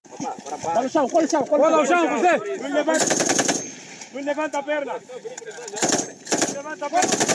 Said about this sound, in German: Die Rekruten robben unter tiefgespanntem Draht voran. Über dem Draht herrscht Sperrfeuer. Ob es scharfe Schüsse sind, ist dem Twitter-Video nicht zu entnehmen.